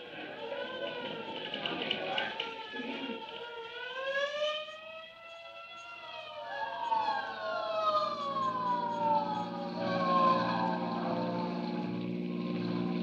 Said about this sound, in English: Say, there's a hook and ladder on the street right now. It must have turned the another alarm.